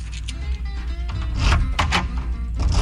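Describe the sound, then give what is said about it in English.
A door lock and chain being worked back and forth: a run of metallic clicks, rattles and a few sharp clacks over a steady low mechanical rumble, with no voices. “I'm locking and locking on a lock on a door.”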